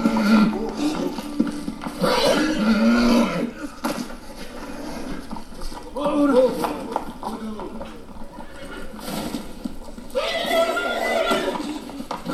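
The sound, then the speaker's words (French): A horse neighs in three loud, shrill bursts spaced a few seconds apart, while hooves clop steadily underneath, sounding close and agitated. “Le cheval est à moitié fou, monseigneur.”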